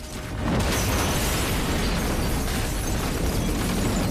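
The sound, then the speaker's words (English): A huge gas explosion, set off by pressing the igniter button on a stove hob, tears through and obliterates a house, swelling within half a second into a loud, sustained roar of blast and collapsing debris that stays overwhelming throughout, with no voices. “In the cellar, Cooper cowers and covers his ears as the house is obliterated by the explosion.”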